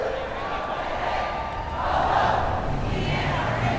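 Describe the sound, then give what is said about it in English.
A large crowd of marchers on the streets of Dallas chants "the NRA has got to go" in unison outdoors, their voices blending into a steady, rhythmic roar that swells slightly midway and stays loud throughout. “They were chanting like this, saying the NRA has got to go.”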